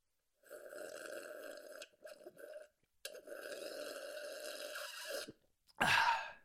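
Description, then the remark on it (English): Loud, drawn-out slurping as someone sips water noisily: two long gurgling pulls broken by a short stutter, then a sharp, breathy burst at the end. No talking. “Oh, you, if you're not making the most noise while sipping water, then you're going to die 10 years earlier than everyone else.”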